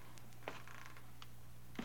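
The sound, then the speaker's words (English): Faint creaks of an old house settling, with two sharper cracks standing out over a quiet, steady low hum. Nobody speaks. “I heard the feet coming up the stairs, or was it just the creaking of the old house?”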